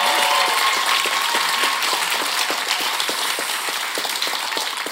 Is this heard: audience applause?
yes